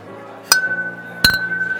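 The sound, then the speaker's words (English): Two bright glassy clinks of beer steins knocking together in an Oktoberfest toast, about three-quarters of a second apart, each leaving a sustained ringing tone that lingers clear. “We're just drinking in it. Cheers. Prost! Prost!”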